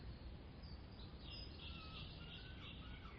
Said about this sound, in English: A flock of rooks lifts from the trees, chattering like children released from school.